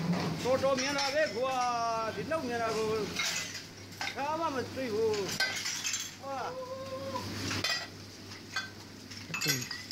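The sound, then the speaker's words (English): Dishes and cutlery clink and clatter in rapid, irregular bursts as a man washes them very fast, with people chattering and exclaiming over the busy clattering throughout. “This guy is washing the dishes, not washing the dishes, okay?”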